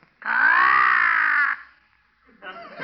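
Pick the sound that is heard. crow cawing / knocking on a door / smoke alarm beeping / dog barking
crow cawing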